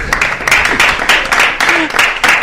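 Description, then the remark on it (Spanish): An audience applauds a footballer's partner who is present, with a dense, steady patter of many hands clapping, sustained and fairly loud throughout, with a faint voice or two briefly surfacing beneath the clapping. “Un aplauso también, ¿no?”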